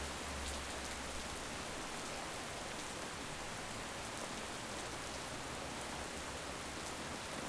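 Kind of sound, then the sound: nature, rain falling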